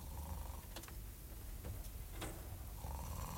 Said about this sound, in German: Das Fenster steht offen. Onkel Einar schnarcht.